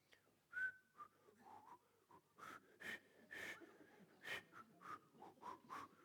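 Breathy, toneless whistling through pursed lips in the countryside, a series of airy hissing puffs with a faint pitched edge, repeated irregularly with no clear tune and no talking.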